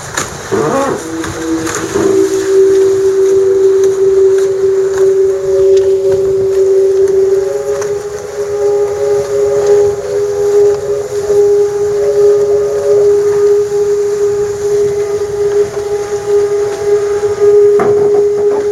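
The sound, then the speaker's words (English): A steady, loud tonal hum from a sailboat's hydrofoil as the boat sails at about 13.6 knots, building to 14, just before lifting off, in very light wind. It holds one pitch with faint overtones throughout, over constant rushing water and wind noise. No voices. “Hear the foil really humming.”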